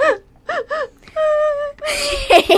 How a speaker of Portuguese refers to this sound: Bem feito, a bobona tá chorando.